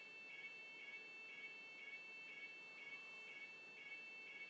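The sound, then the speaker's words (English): A building fire alarm rings continuously, a steady high electronic tone with a regular pulsing beat about twice a second. It is fairly faint, with no voices. “Because they're not showing many signs of actually switching this alarm off.”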